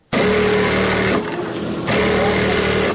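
Electric sewing machines run continuously with a loud, steady motor whir and buzzing hum, briefly easing in the middle before picking back up. Several machines seem to be going at once, used by schoolgirls sewing clothes around a large table in a big tailoring class in Herat.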